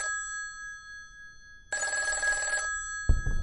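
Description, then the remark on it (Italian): An old telephone bell rings in one loud burst lasting about a second, preceded by a faint steady tone and followed by a dull thump, as an order arrives by telephone at 23:35 on the evening of 20 June in Chiusi. No one speaks. “Anzi, proprio la sera del 20 giugno, alle 23:35, arriva telefonicamente l'ordine di difendere strenuamente la città.”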